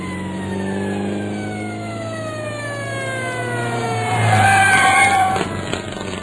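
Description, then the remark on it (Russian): An ambulance engine draws nearer and grows louder, its steady hum sliding downward in pitch as it slows and pulls up. No voices are heard. “Приехала скорая помощь, но было уже поздно.”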